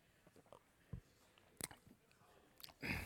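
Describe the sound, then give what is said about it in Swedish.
Quiet sips of water taken by a preacher during an evening sermon: a few soft slurps and swallowing clicks spaced out over a few seconds, with a slightly louder gulp near the end and no talking. “Hälsa på din granne så tar jag lite en klunk vatten här.”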